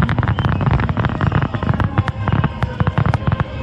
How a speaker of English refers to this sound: Washington, D.C. hosting its own New Year's Eve celebration with fireworks over the nation's capital last night.